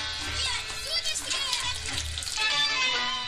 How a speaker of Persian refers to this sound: جلوی دکان پسر بچه با آفتابه روی دست ابوالفتح آب می ریزد تا دستش را بشوید.